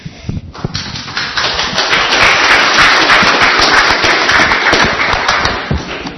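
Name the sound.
audience applause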